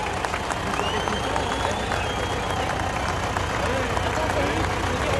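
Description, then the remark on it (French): A heavy tractor engine rumbles steadily as its front bucket lifts people up so they can see what is happening, partly buried under a noisy crowd with overlapping voices and general commotion throughout. “On se met dans la pelle du tracteur et on grimpe pour voir ce qui se passe.”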